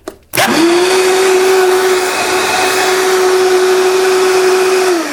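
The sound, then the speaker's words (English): A kitchen blender switches on with a sharp click and runs loudly and steadily, a high whirring motor tone with broad grinding noise holding constant for about five seconds, no voices. “you definitely want to protect your hearing and your little wee ones or anyone in the vicinity when you're making your juices, your smoothies, your hummus, all the wonderful things that you can do. Protect your hearing. This is what it sounds like.”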